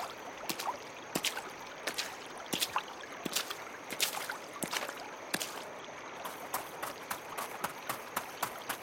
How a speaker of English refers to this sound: If I run through a creek and downstream a bit, that'll help confuse her.